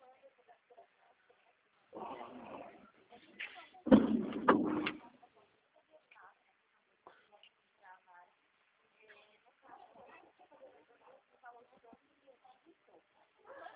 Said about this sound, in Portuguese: Tá, deixa eu abrir a outra porta aqui.